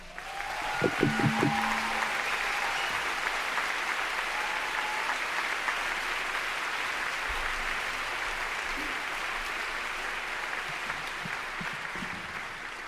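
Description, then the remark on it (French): Sustained audience applause for the performer's first invited guest, Sébastien Martel, at a music show: a dense steady clatter of many hands clapping that holds evenly for the whole stretch, with a brief tonal sound and a few low thumps near the start. “mais avant tout, je voudrais que vous applaudissiez très fort mon premier invité qui me fait l'honneur d'être parmi nous, le grand Sébastien Martel.”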